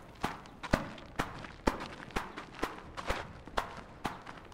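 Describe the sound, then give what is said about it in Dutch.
Steady footsteps of an 83-year-old man walking back at an even pace in the village of Oudekerk, about two crisp steps per second, clear with no talking over them. “Dus we kunnen wel even kijken of die gelijk terug komt lopen.”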